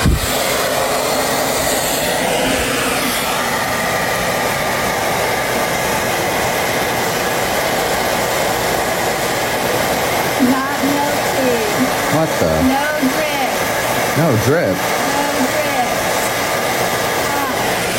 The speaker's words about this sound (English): She packs another snowball and turns on the blow dryer. I am setting hot.